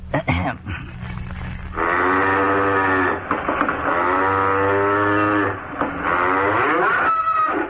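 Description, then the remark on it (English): A man's voice imitates a cow, giving long, drawn-out moos in a few sustained bursts, loud, with a low rumbling undertone and no other speech. “Next, my interpretation of a cow.”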